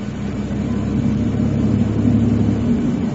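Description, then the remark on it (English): A Toyota Camry sedan's engine hums steadily from inside the cabin, a continuous low rumble with road noise that swells slightly as the car drives along, without any voices. “A Toyota Camry.”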